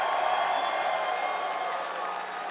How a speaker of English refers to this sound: And do me a favor. Let's get a round of applause for them fucking first two bands that fucking played awesome.